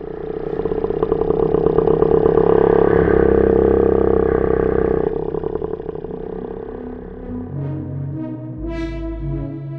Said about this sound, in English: So when we made these sounds for the first time, you got sound and that sounds exactly like a baleen whale.